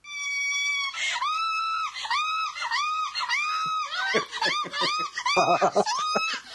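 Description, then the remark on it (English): A woman screams in long, high, wavering cries that break into rapid hooting pants, sounding much like a chimpanzee laughing, loud throughout. “I've got a little clip here of her screaming and see if you think this sounds like a chimp laughing.”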